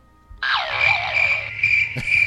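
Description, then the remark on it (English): A steady chorus of crickets chirping, played as a sound effect from a soundboard, starts abruptly after a brief pause and keeps going at an even, fairly loud level, with a continuous high trill and no voices. “because you didn't have anything, not because the kiss was crickets.”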